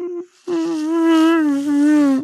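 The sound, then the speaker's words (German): A voice imitates a mosquito's whine: a short nasal burst, a brief pause, then a steady, close, loud buzzing hum held for nearly two seconds. “Und ohne Mücken. Ohne Mücken.”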